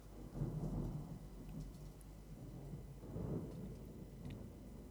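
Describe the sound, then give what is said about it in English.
Deep, rolling thunder rumbles twice, resonating over the reed valley of the Guadiaro River, across a steady wash of torrential rain on the morning of 4 April 2013; the booms swell and fade. No voices are present. “What you're hearing there in the background is the thunder resonating over the reed valley of the Guadiaro River in the torrential rains of the morning of the 4th of April, 2013.”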